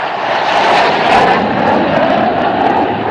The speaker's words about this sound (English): And to celebrate that ball being low and away, there's another flyover. Pretty spectacular to see. Right over the ballpark as they whip across the Mississippi Sound.